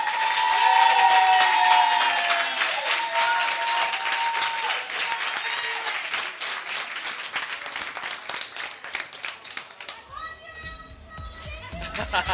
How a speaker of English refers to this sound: Can everybody give a big round of applause?